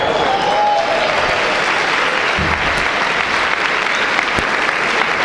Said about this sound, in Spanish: Date un aplauso.